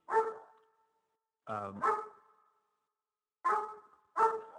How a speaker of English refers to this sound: Hold on a second. Let me shut this dog up. I'll be right back.